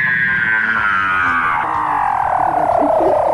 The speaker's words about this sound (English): Weddell seals are known for their unusual vocalisations, like these, captured in a Facebook video shared by non-profit organisation Ocean Conservation Research.